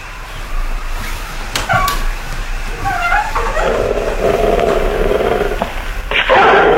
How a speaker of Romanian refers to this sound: Iancu, Urmatecu, câine rău.